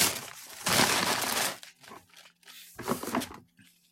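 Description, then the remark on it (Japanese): Loud crumpling of paper packing material inside a just-opened cardboard box, with a long dense burst of crinkling followed by shorter bursts of rustling and crunching as it is handled. “すごい、このくしゃくしゃの雑音だね。”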